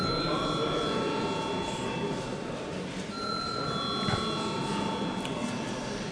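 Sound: parliament voting bell ringing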